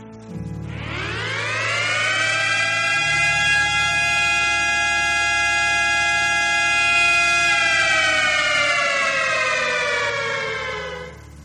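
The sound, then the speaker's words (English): A loud siren played from a phone app winds up from a low pitch to a high, steady wail, holds for several seconds, then starts to dip slightly near the end. No one speaks over it. “I'm going to play this sound and I hope this will come out right. But listen to the siren.”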